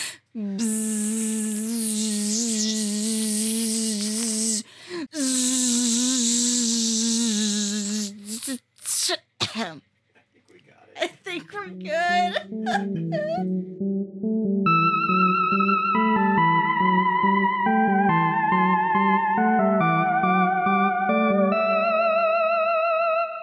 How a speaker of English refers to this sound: And we are back from the scream of the Shulka. That was more like the sound they actually made.